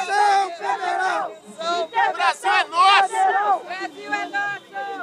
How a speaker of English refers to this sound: A couple dozen protesters, they're shouting federal intervention. They want the military to come in and keep Bolsonaro in power.